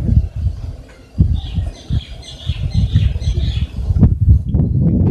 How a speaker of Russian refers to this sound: И эта птица просит, говоря, «О, вода! О, вода!» Таким образом эти птицы щебечут.